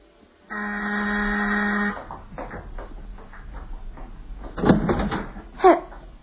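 doorbell ringing

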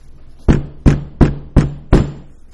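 knocking on a door

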